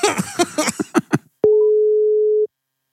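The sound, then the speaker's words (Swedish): While a phone call is being placed, a few quick dialing tones give way to one long, steady electronic ringback tone lasting about a second, loud, after brief muffled chatter, then silence. “Då Blom, då ska vi alltså ringa Lenny.”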